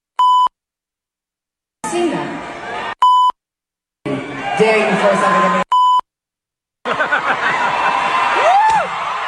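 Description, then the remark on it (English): Three short, steady censor bleeps cut in between stretches of loud, live-sounding speech by a singer on stage during a concert performance, with crowd noise behind it, each tone clipped and flat, replacing words. “Yeah, well, yeah, there were a fair amount of beeps in there, but she basically said, "You throw something at me, I'm gonna effing kill you."”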